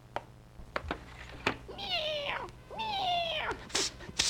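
A cat meows twice in a row, two drawn-out, rising-then-falling cries, with a few sharp clicks and knocks scattered around them and no talking.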